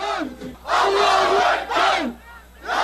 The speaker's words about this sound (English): Crowds waved flags at the late-night rallies and chanted their determination not to let anything or anyone divide the country.